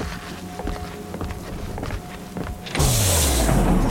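Men's footsteps walk steadily to a facility entrance for a few seconds, then automatic doors slide open with a loud motorized whir that drops in pitch over a broad, airy hiss that continues to the end.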